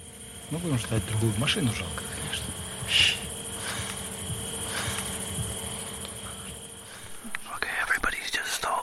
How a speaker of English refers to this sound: Staring silently at the sky because we can hear a drone above us. So that drone we heard has passed overhead, so we need to get out of here fast.